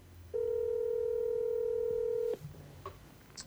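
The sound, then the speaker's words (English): A single steady electronic telephone tone sounds for about two seconds while a call is being placed, then cuts off, leaving a quiet line with a few faint clicks and no voices. “Let's give him a ring.”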